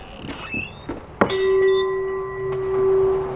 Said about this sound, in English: The final hum tone is like the sound of a jet engine vibrating through your seat as you await takeoff. You can feel it. The chime hangs just outside his gallery, Celestial Winds Harmonic Bazaar.